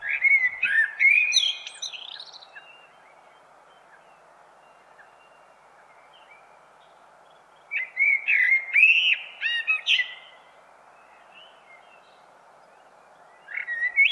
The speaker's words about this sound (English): We have another clip. This is a clip of the blackbird that you've sent us,